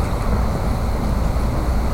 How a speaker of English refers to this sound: It's warmer today, so I had to turn the air on, so I apologize. I hope you're able to hear me okay, because sometimes the air conditioner can be quite loud.